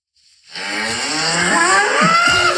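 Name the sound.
cow mooing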